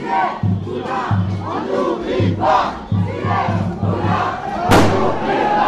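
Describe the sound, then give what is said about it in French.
A large protest crowd shouts and yells continuously as police charge into it with tear gas canisters, voices overlapping in a loud chaotic din, punctuated by repeated low thuds and a sharp bang near the end. “Et la police charge sur la foule avec des bombes lacrymo.”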